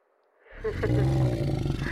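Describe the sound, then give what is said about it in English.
A deep, cat-like roar, like a tiger's, from a female creature, rises after a brief hush and rumbles on loud, growling steadily until it cuts off. “She sounds a bit like a cat, genuinely.”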